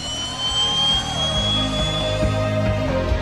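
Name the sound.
jet aircraft engine roar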